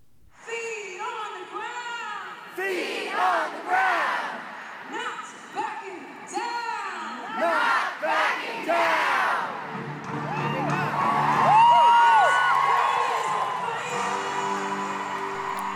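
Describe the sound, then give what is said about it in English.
A large, restless protest crowd in the later afternoon chants and cheers for the march to begin, in loud, overlapping bursts of voices with high whoops, then swells into a steadier, continuous roar of shouting and sustained calls. “Participants became restless later in the afternoon, chanting for the march to begin.”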